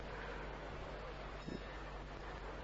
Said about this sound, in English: Right beside us, we hear the ocean.